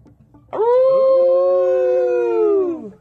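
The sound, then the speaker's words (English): A wolf lets out one long, loud howl that swoops up, holds a steady quavering pitch for a couple of seconds, then sinks away, alone without any talking. “And shout out to the wolves here.”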